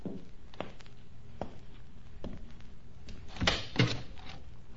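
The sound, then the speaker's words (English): A door opens and shuts, with a few soft knocks and footsteps before a louder clunk and latch near the end, with no talking. “Please close the door and come in.”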